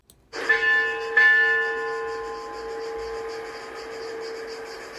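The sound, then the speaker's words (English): A bell is struck twice in quick succession, ringing out loud and clear with a long, shimmering metallic tone that slowly fades. There is no talking. “Ding, ding. A bell began to ring.”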